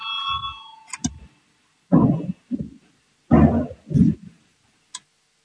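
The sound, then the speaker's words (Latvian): A steady electronic voting bell rings briefly at the start of a vote in a parliamentary session and cuts off, followed by several short, muffled bursts of low noise. “Lūdzu zvanu, balsosim par 216.”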